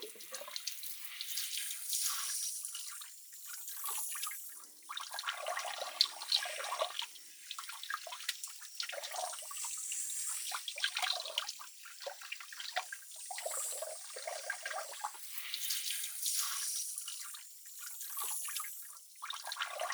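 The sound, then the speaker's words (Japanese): Steady running water pours from a tap during a carbonated head spa treatment, a bright, hissing spray with gentle surges and splashes, continuous and moderately loud with no voices. “よし、炭酸ヘッドスパしていきますね。”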